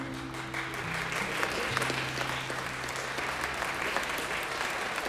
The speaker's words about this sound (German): Das Publikum in der Schulaula erlebte einen Traum aus Gesang und Tanz auf der Bühne und applaudierte schließlich begeistert.